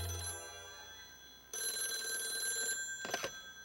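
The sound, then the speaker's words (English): An old-style telephone bell rings at home at 9:05 in the evening in two bursts, a short ring then a longer sustained one, bright and metallic, followed by a brief rattling tail, with no voices. “The phone rang and I glanced at my watch.”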